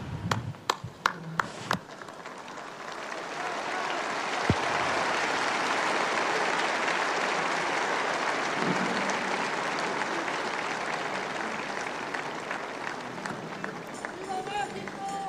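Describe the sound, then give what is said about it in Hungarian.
A large crowd breaks into sustained applause to thank Pope Francis for his blessing and teaching, starting with a few scattered sharp claps before swelling into a dense, steady roar of clapping that continues evenly throughout. “A mai napon is tapsal köszönik meg Ferenc pápa áldását, az ő tanítását”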